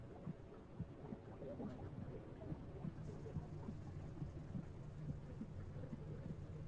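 human body sound, heartbeat

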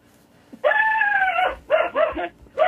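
animal, dog barking and whimpering

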